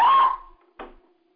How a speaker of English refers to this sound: Wow. The dog is giving a sort of a commentary.